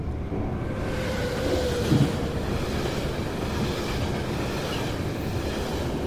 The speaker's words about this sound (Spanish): Chiltern opera la parte de pasajeros, pero es fácil cruzar con trenes de West Midlands o con Heavy Rail Freight, tirando de largos y pesados mercantes, tal y como sucede al entrar en Banbury.